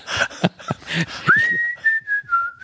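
A person whistles a short tune, one clear sustained note gliding gently up and down, preceded by a second or so of brief, noisy rustling sounds.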